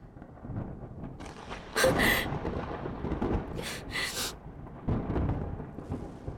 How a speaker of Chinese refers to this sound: 妈的，怎么回事？又打雷了！